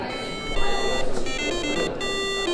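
A homemade alarm clock, built by a team of high school students in SMU's makerspace, the Deason Innovation Gym, rings loudly and steadily, a bright, buzzy electronic tone that starts abruptly and keeps going without pause, with no voices.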